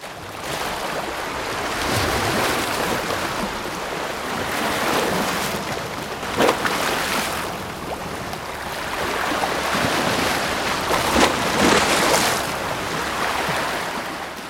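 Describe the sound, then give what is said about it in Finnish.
Waves wash continuously onto a lake or sea shore, the broad rushing surf swelling and easing every few seconds, with a steady wind-like hiss underneath and no voices. “Tämä on ollut semmoinen harrastus, tämmöinen niin kuin ehkä vaihtoehto kalastamiselle, että semmoista mukavaa oleskelua järven ja meren äärellä ja aaltojen tuijottamista ja asioiden pohtimista.”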